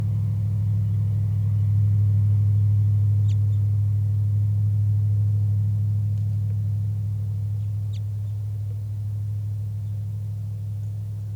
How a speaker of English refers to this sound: Very soft flight calls by the wild bird.